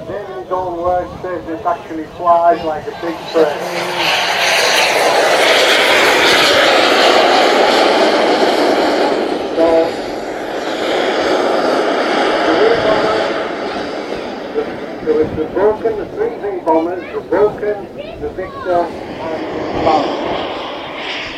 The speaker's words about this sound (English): Another fly past. This is the Vulcan going up there.